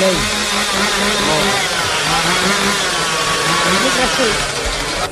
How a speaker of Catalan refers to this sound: I no només hi ha escallots, sinó també hem vist un pagès que portava una serra mecànica. Molt bé. Com una serra mecànica.